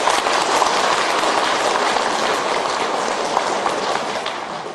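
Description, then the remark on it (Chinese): An audience at a talk claps steadily in sustained applause for listeners who brought relatives and friends, a dense, even patter of many hands that holds at a loud level throughout and tapers slightly at the end, with no voices. “所以台长在这里第一，为我们今天带很多亲戚朋友来的慈悲的听众朋友们，大家给他鼓鼓掌，谢谢他们。”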